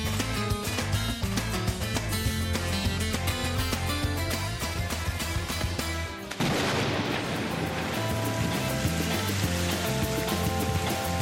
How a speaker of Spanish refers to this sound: Es la lluvia que ayer nos sorprendió en la capital y en toda la comunidad. Cuando estábamos más preocupados por la sofocante ola de calor que estamos viviendo, que por otra cosa, el agua irrumpió ayer en la comunidad,